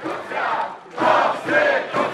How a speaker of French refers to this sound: Mais ce matin, la présidente déchue de la Cour suprême s'est rendue à son bureau, comme d'habitude, et elle a été accueillie, acclamée par plusieurs milliers de manifestants.